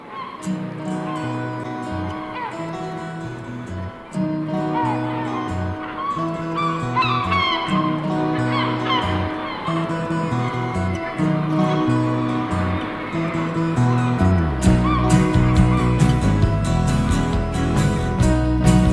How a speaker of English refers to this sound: here's another Britpop group with a song that has Seagull sounds on it.